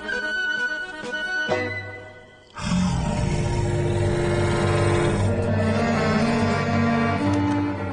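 A wolf growls and snarls loudly as it leaps up and attacks with its sharp teeth, a rough, sustained rumble that dips briefly before surging back even harder and continuing without pause. No one speaks.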